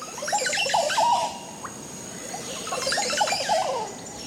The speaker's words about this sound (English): The male Oropendula's connection to the colony is strong, and he'll sing throughout the nesting season. And what a song it is!